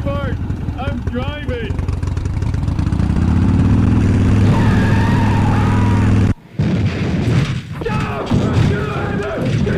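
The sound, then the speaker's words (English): A Harley motorcycle engine revs loudly and steadily, then cuts off abruptly as the clutch is popped with the rev too high. A burst of heavy thuds and clattering follows as the bike flips over backwards and crashes. “You popped the clutch with your engine rev too high and flipped your Harley over backwards.”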